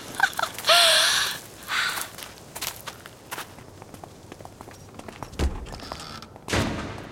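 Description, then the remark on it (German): A front door slams shut with a loud, booming thud, followed by a second heavy bang, after a stretch of shuffling steps, scraping and brief rattles. No one speaks. “Ich glaube, das war die Eingangstür.”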